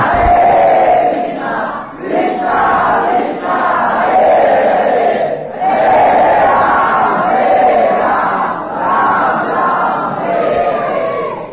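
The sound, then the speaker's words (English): A large crowd loudly screaming out the Hare Krishna Maha Mantra in unison, voices rising and falling in rhythmic waves that stay loud and dense throughout. “Better to scream out the Maha Mantra. Hare Krishna!”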